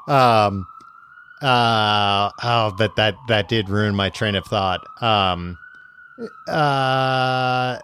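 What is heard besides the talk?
ambulance siren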